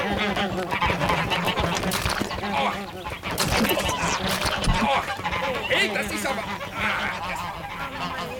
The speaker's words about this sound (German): Die Enten.